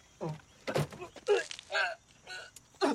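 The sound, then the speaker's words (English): A man retches and vomits out of an open car door in the morning, a series of five or so harsh, voiced heaves and gags coming in uneven bursts with short pauses between them. “He opens the car door and vomits.”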